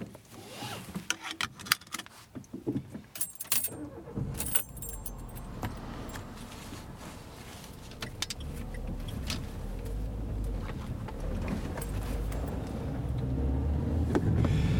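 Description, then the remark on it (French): Keys jangle and rustle briefly, a door thumps, then a car engine starts and settles into a steady low rumble that grows louder as the vehicle pulls away and drives; someone gets into a car and drives off toward Arlon, holding a microphone in hand while driving. “Hop, en voiture. Et c'est parti, mon kiki.”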